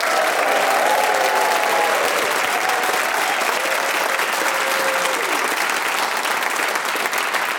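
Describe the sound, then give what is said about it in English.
A live audience of the show Just a Minute applauds loudly and steadily for several seconds as panellists Paul Merton, Jan Ravens, Jade Adams and Dane Baptiste are introduced, a dense wash of clapping with faint whoops and cheers rising above it. “Please whoop and cheer and go wild for all four of them.”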